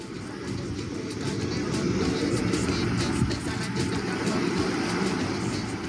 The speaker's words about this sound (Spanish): Y con este sonido de olas, de música isleña que tenemos de fondo, pues llegamos al Caribe profundo, el mar de siete colores que nos envuelve, San Andrés que huele a coco frito y suena reggae